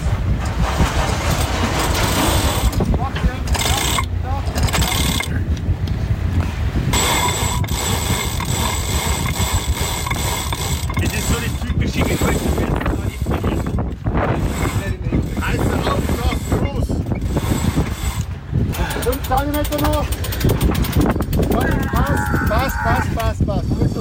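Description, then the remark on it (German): Winch ratchets clicking and rigging rattling as the sails are hoisted aboard a sailboat in Croatia and the engine is switched off, with wind buffeting the microphone and voices talking underneath. “Der erste Tag, Segel rauf, Motor aus und einfach mal den Wind machen lassen.”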